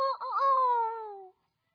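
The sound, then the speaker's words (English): A single rooster crows once, loud, a strained, tonal call that starts with a brief hitch, then stretches out and slides downward before cutting off into silence. “And the rooster crowed.”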